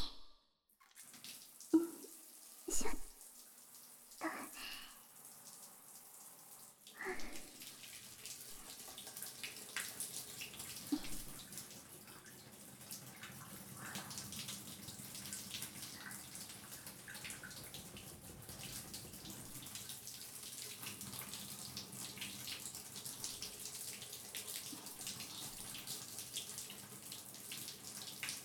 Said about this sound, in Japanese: では、シャワーで流しますね。